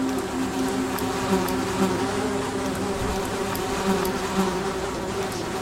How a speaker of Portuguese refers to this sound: Várias moscas encheram a terra do Egito. As moscas estavam em todo lugar, nas casas, nos servos de Faraó. Diz a palavra do Senhor que havia enxame de moscas.